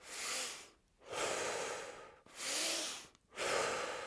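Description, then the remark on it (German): Deep, forceful breaths of a Wim Hof breathing exercise, hyperventilating, pulled in and pushed out in a steady rhythm, about four loud, airy cycles with short pauses between, with no talking. “Sie wirken auf ihn aktivierend, funktionieren wie eine Hyperventilation, bei der sehr viel Sauerstoff ins Blut gelangt.”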